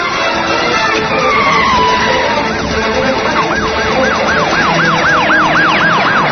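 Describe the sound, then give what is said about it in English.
A police car siren starts up partway through, cycling in a fast, rising-and-falling yelp that grows steadily louder over a constant low rumble of engine and road noise. “These cops are going to roast us.”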